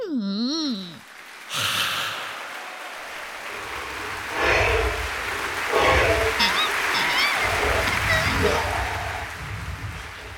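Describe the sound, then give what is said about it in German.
A short wavering vocal sound gives way to a steady wash of audience applause, dense clapping for a dragon at the final curtain call on an opera stage, swelling and continuing for several seconds with some voices mixed in. “Applaus für den Drachen auf der Opernbühne.”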